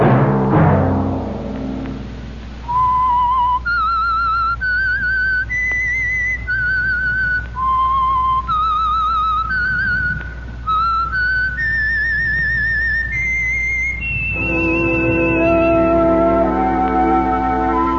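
A clear, melodic whistled tune plays alone, the theme signal of the Signal Oil radio program The Whistler: a series of sustained vibrato notes stepping up and down in a haunting theme, ending with a long held tone over a soft orchestral swell.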